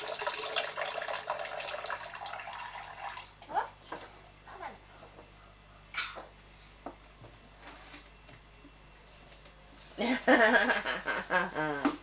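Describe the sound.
Water runs steadily from a tap with a soft, continuous hiss, fading in and out beneath scattered bits of conversation and a burst of lively voices near the end.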